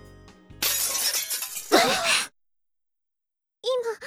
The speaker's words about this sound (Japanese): 今何か音がした。 ガラスの割れるような音だったわね。